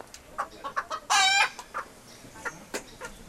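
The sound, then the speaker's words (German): Chickens being fed on a family farm cluck in short, scattered bursts, with one louder, drawn-out squawk rising above the rest partway through; no voices. “Maicon schaut zu seinem Vater Valdir hinüber, der gerade Hühner und Schweine füttert.”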